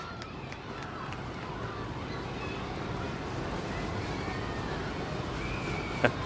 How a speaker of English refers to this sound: Listen to that stomping in the seats.